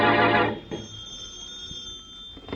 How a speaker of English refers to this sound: As we return to our story, Shorty has been released by the police, and in the Brumley home, the phone rings.